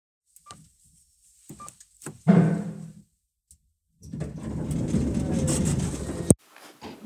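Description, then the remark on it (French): Mechanical elevator doors slide open with a brief rumbling clunk, followed by a longer, steady whirring rush that ends in an abrupt thud, with faint scattered taps around it. “C'est les portes de l'ascenseur qui s'ouvrent.”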